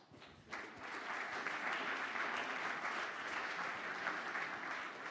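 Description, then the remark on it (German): An audience breaks into applause, a dense wash of clapping that swells quickly after a brief quiet start and holds steady and full for several seconds. “Ja, ein Applaus.”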